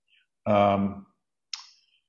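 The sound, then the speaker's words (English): A brief, loud buzzy burst followed a second later by a short, sharp computer-mouse click on a Q&A button, both isolated with no talking. “I'm going to fulfill my moderator duties here by clicking on the Q&A button, which I've never done before, so this is a little scary.”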